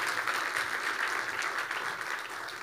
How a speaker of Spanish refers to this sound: ¿Por qué no le damos un aplauso a Dios por eso? ¡Qué increíble!